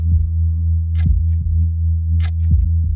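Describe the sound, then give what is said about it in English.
A clock ticks with sharp, crisp clicks, some louder than others, over a steady low droning hum that fills the background. No one speaks. “There's a clock. So I try to keep track. I count the ticks.”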